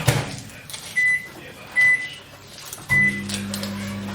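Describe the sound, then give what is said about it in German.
A microwave oven heating milk until lukewarm gives three short electronic beeps while being set, then starts up with a steady low hum, with faint kitchen clatter before it. “Mikrowellenmilch reicht? Ja, lauwarm.”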